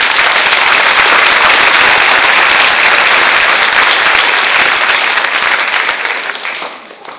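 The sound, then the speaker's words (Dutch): An audience at an evening theme service breaks into loud, sustained applause, thanking everyone who took part, a dense wash of many hands clapping at once that holds steady for several seconds before starting to thin out and fade at the end. “Zullen we gewoon even lekker applaus doen?”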